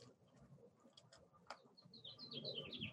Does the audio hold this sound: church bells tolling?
no